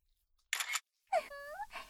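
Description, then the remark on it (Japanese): A single crisp camera shutter click, a short noisy snap, followed by a brief voiced sound after a moment of quiet. “ほんとに君のおちんちん、シャッター音でエロスイッチ入るようになっちゃったんだ。”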